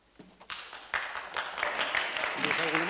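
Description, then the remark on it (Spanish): A crowd breaks into applause that quickly swells and stays dense and steady, with scattered voices calling out beneath the clapping toward the end. “Me la pido, por favor, de verdad, que está muy bien, pero no, no por favor, no aplauden, de verdad, les ruego.”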